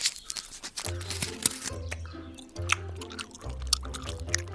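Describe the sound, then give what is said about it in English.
Wet chewing and smacking noises of bubble gum being worked in the mouth, repeating irregularly over a low, steady musical drone. “Let's get chewing.”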